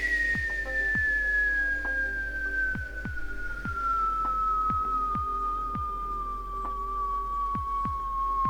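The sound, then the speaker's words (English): A continuous high whistle from a rocket coming straight down on a ballistic trajectory slides steadily downward in pitch, loud and sustained, over a low droning hum punctuated by regular muffled thumps. “And you start hearing that very freaky sound of that rocket whistling.”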